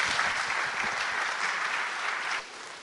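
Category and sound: crowd, audience applause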